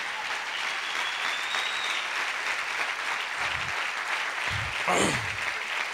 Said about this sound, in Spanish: Démosle un aplauso al Señor, aleluya.